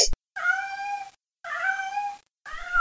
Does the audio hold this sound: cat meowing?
yes